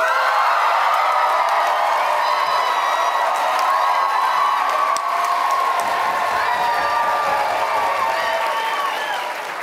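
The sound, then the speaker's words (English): An audience applauds and cheers steadily for about ten seconds as an applause vote for the dog side or the cat side, dense clapping mixed with high whoops and shouts, loud throughout and tapering slightly at the end. “First, we will hear, in purely applause terms, we will hear from the dog side and then the cat side.”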